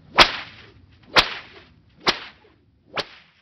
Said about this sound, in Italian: Le fruste schioccarono.